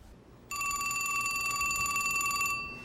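A telephone bell rings in one continuous two-second burst, a bright metallic trill with ringing overtones, fairly loud, starting abruptly and fading out at the end.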